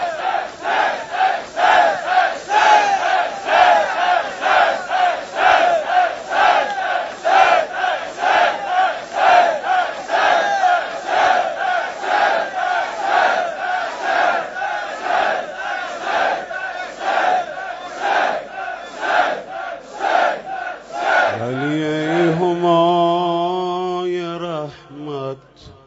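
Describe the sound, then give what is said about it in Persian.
A large crowd shouts together in unison, loud rhythmic chants repeating steadily for about twenty seconds, then a single voice takes over with a long, wavering melodic call. “همه با فریاد چند لحظه صدا بزنم”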